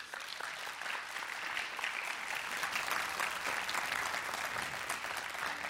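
Sustained applause from an audience, a dense, steady wash of clapping that holds at an even, fairly loud level for several seconds with no voices over it.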